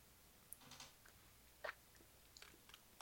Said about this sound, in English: But you used a lemony bubbly. That's good. A lemony bubbly. Well, I'm going to take a sip of this thing.